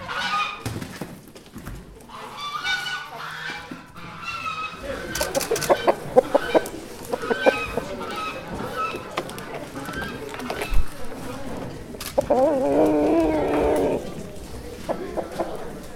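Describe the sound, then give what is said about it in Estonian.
Roosters crow and hens cluck in a busy farmyard chorus, with geese honking among them, the calls overlapping loudly and continuously; farm animals shown on the opening day of an event at the Kiek in de Kök tower. “Kikendi köki torni, kus avapäeval kõndisid treppe mööda kitsed, kus valju häält tegid haned ja kukked ja kust ei puudunud ka läikiva karvaga kena linnarott.”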